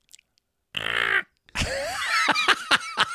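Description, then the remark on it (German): A voice imitates a very small screeching spider: a short raspy squeal, a brief pause, then a longer shrill screech with wavering pitch and sharp clicky bursts near the end, loud throughout. “Wie schreit eine Spinne?”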